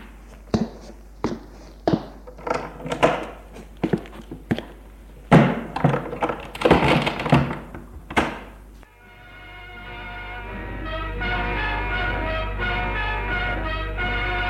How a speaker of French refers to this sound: Et le prêtre sort de la pièce et ferme la porte à clé.